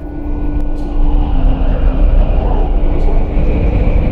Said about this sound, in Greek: Ο άνεμος φυσήξε ακόμα πιο δυνατά.